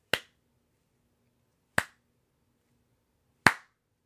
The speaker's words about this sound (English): I feel a slow clap coming on.